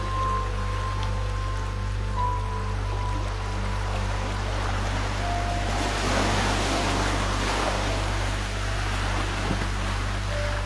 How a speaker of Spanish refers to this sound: Sonido relajante de las olas del mar.